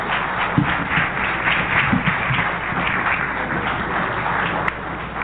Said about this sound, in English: Brother Kwame Ture, let's give him a warm, warm round of applause, Brother Kwame Ture.